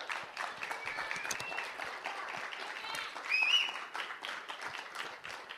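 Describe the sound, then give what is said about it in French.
A crowd applauds the Lord steadily for several seconds, a dense wash of many hands clapping at once, with a few faint high voices or cheers rising briefly above it. “C'est assez juste pour applaudir le Seigneur pour ça.”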